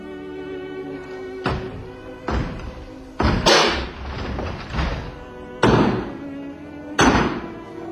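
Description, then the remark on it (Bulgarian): A door is battered as police try to force it open: five or six loud, heavy thuds land at irregular intervals, with a dull ringing after each blow and no voices. “Щом не желаете да отворите, ще изкъртим вратата.”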